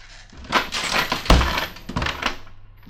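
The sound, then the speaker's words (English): A trap door in a house's living room is closed and bangs shut with one loud, heavy thud, framed by a busy stretch of wooden rattling and clattering before and after the impact. No voices are heard. “I shouldn't have let it slam.”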